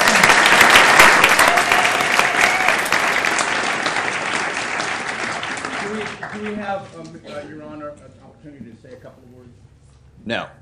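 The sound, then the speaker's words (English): Dense applause from an audience at a Portland meeting proclaiming Farm Worker Awareness Week fills the first several seconds, strong and sustained, then thins out and fades as voices start talking near the end. “Round of applause for them.”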